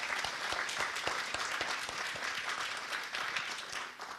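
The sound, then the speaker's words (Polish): An audience applauds steadily at an IPN event streamed on IPN TV, welcoming members of the Polish Falcons of America; dense overlapping claps form a sustained, fairly loud wash of sound that holds level throughout with no talking. “Brawa.”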